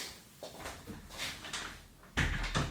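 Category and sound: household object, door being closed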